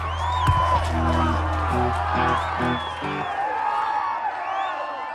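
A large crowd cheers steadily throughout, with scattered whoops and high shouts rising over the roar, while a low rhythmic thumping pulses underneath for a few seconds.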